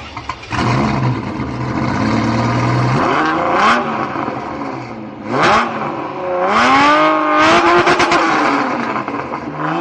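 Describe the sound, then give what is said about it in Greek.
A Ferrari Testarossa sports car engine revs hard, its pitch climbing and falling in several loud surges with brief dips between, and no voices present. “Εγώ νομίζω ότι Ferrari Testarossa, η Ferrari Testarossa είναι αυτό που έχει χαρακτηρίσει όσο τίποτε άλλο τη σειρά Miami Vice”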